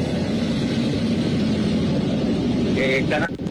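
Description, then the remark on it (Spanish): Helicopters fly at 1:58 in the morning while the Piura fort is under attack, droning in a loud, continuous low rumble with a choppy, pulsing texture, and a few brief higher whining tones rise over it near the end. “Se escuchan helicópteros, son las 1:58 de la mañana.”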